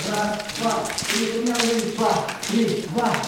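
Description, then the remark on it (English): A group of women seated in chairs practice slapping in a training session, joining in as the instructor demonstrates: sharp smacks land in loose, uneven bursts while women's voices call out and chatter over the top throughout. “Then the instructor demonstrates slapping, and all the women join in from their seats.”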